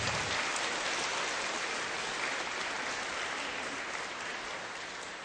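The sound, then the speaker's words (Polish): Sustained applause from an audience greeting one another, a dense crackle of many hands clapping at a steady level for several seconds, easing off slightly toward the end, with no voices over it. “Chciałbym bardzo serdecznie was przywitać i cieszę się z tego naszego dzisiejszego spotkania, ale wy także siebie nawzajem przywitajcie gorącymi oklaskami.”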